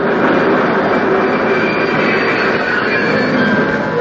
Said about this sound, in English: Hey, Ted! The train's coming.